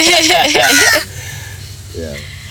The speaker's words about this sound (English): Yeah, the Raven agrees with us.